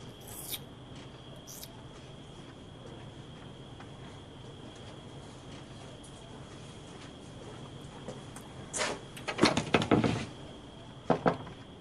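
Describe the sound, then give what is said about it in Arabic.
A door is shut with a cluster of sharp knocks and rattling clicks, like a latch or lock being worked, over a steady low background hum; no one speaks. “ليش قفلت الباب”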